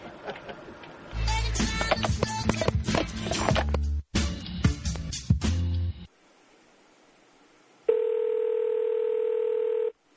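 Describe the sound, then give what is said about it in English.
A phone call being placed back to a woman: a dense run of electronic telephone dialing tones plays for several seconds, then a short hush, followed by a loud, steady buzzing ring tone that holds until the end. No one speaks. “I'll try calling her back.”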